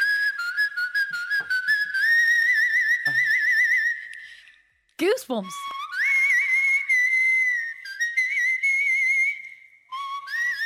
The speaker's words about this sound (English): Is that insane? It gives me goosebumps. If she released a whistling album, I would listen to it. I'd totally listen to it.